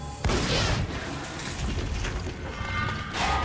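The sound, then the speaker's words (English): A porthole door in a shaft is blown out when an object attached to it is shot: a sudden sharp blast, followed by several seconds of heavy rumbling, metallic clattering and grinding noise with no voices. “The porthole door is blown out.”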